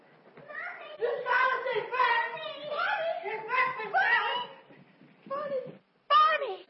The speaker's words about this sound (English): Daddy gave me a kitten. Oh, you little London's kitten.